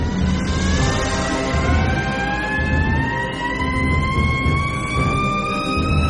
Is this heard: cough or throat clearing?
no